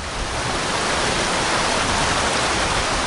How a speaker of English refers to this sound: It's sort of a stationary fish vacuum. We've got water being pulled into the throat, and then fish go over this velocity barrier and then get caught down in a little trap down there.